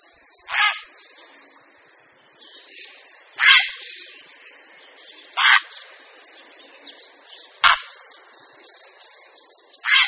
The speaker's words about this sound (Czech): Volavka popelavá.